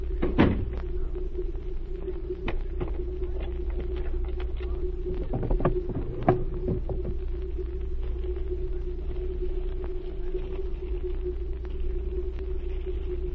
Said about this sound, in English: Close the door and wait.